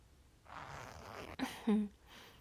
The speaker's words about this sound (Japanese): な、チャック下ろしちゃうか。